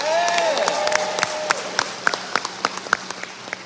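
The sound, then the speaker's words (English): An audience at a talk applauds to show how many have heard of blindfold games, a dense patter of many hands that thins toward the end into scattered individual claps. A brief whistle-like tone rises over it at the start. “Could I hear just from applause how many people actually have heard of blindfold games?”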